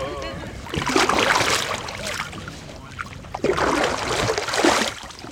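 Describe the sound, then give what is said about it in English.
A rowboat is rowed out into the sea through dark brown, yellowish, reddish water, with two long swishing oar strokes a few seconds apart, each followed by water splashing and sloshing. A faint voice is heard briefly at the start. “So as he is rowing us into the sea, I can see the kind of dark brown, kind of yellow water.”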